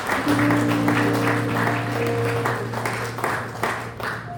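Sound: audience clapping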